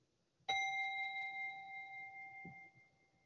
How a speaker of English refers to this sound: So we'll sit really quietly. I have my portable meditation gong, and we'll sit for about a minute and a half.